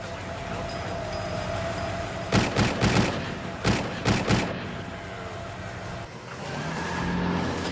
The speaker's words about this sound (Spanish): cuando comenzó el tiroteo.